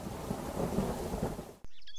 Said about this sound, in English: A dark and scary stormy night